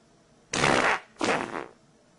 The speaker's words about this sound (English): First of all, her butt doesn't even move when that fart comes out. See, that's what there's got to be some type of muscle contraction. I know we're analyzing a chick's ass when she farts, but she ain't really farting.